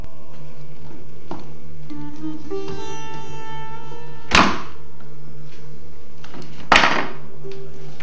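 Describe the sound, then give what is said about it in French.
Two sharp metallic clicks a couple of seconds apart as the hinge pins of a door snap back into place while the door is rehung, fairly loud, with a faint ringing hum before them and no talking. “posez le pied sur le tournevis, remettez la porte au bout de celui-ci, et ensuite, vous pouvez réenclencher les pommelles.”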